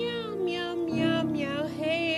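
A cat meows in a long, wavering cry that rises and falls several times without pause, fairly loud, with no other sounds around it.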